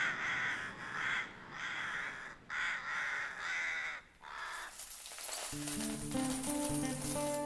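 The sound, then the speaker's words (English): Rooks give a run of about five harsh, rasping caws in quick succession, followed by bright, ringing metallic clinks and sustained chiming tones. “The bumblebees buzzed, and the rooks cawed a slumberous accompaniment.”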